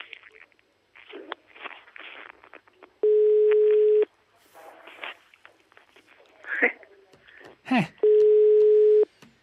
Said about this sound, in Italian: Squilla il telefono della zanzara alle 18.53.